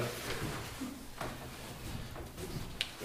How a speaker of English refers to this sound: Well, I mean, in terms of, do you mind if I pull a chair up? No, that's fine. Sure.